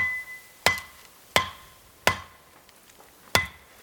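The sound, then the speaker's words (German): Four sharp chopping blows from a blade as a man hacks and saws a path through dense vegetation, landing at a steady then slightly delayed pace, each with a brief metallic ring. No voices. “Doch an vielen Stellen gibt es kein Herum. Er muss hacken und sägen.”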